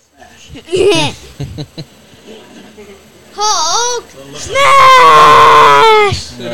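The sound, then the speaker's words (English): A person yells very loudly and close to the microphone in two long, strained bursts, the second held for nearly two seconds, after some quieter vocal sounds at the start. “Will you stop yelling into the mic?”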